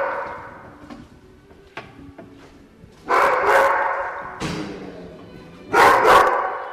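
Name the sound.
dogs barking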